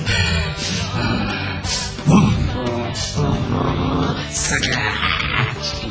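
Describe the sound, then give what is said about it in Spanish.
A voice imitates a woman breathing loudly and angrily as she comes home and tidies up: heavy, rough huffs and snorts that follow one another steadily for several seconds, with a few stronger gusty bursts and no words. “Encima llega y ordena y se la escucha respirando fuerte.”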